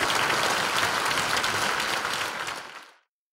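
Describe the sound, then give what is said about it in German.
Dense, sustained applause from a sizeable audience after a lecture by Ulrich Mies in Falkensee near Berlin, loud and steady for nearly three seconds before tapering off quickly into silence. “Jetzt noch mal ein herzhafter Applaus für den Uli.”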